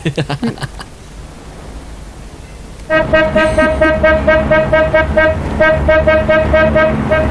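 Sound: car horn honking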